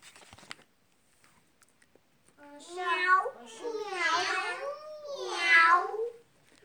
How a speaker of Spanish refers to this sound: Maulló el gato.